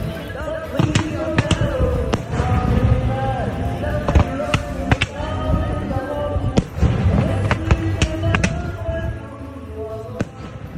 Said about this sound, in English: Bastille Day, that was the sound of fireworks from last night, actually, in Châteauroux. After we were done recording and eating, I went for a little wander, and I was very pleased to find that the locals were celebrating early.